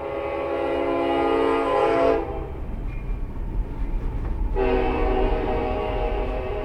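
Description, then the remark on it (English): A train on the Union Pacific Railroad's main line in Hayes, north central Kansas, beside the Midland Marketing grain cooperative, rumbles steadily past while its horn sounds two long, loud blasts separated by a stretch of low rolling noise, with no one speaking. “The main location sits right next to the Union Pacific Railroad's main line in Hayes.”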